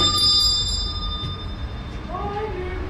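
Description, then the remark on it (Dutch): A doorbell at a family's home rings with a steady, high, bell-like tone lasting several seconds over a low outdoor rumble of pouring rain, with a faint voice near the end. “En ik ga eens aanbellen”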